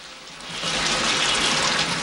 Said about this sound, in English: She turns a dial and water gushes out of a shower head above her.